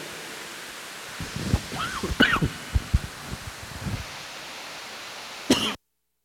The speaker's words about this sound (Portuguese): Pelo menos eu consegui tossir tranquilo. Sabe o que foi isso? Eu não bebi água de manhã dando a aula. Minha garganta está daquele jeitinho aqui.